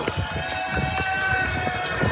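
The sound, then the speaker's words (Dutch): Hurried running footsteps pound in a quick, steady rhythm as several press members dash together during a charge, over a constant noisy outdoor background. “Ondanks de perskaart moeten we toch rennen.”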